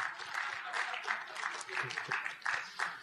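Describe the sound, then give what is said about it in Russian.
Audience applause as people are invited onto the stage: a steady crowd of many hands clapping in a dense, even patter with slight swells, moderately loud throughout the few seconds, no voices standing out. “Давайте аплодисменты.”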